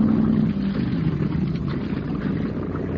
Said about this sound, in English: boarded the cabin cruiser. And within a few minutes, the boat was backed out into clear water. That's far enough, Professor. Now swing it around and head down the river towards the bay.